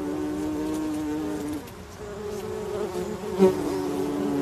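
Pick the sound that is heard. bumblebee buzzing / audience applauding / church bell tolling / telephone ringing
bumblebee buzzing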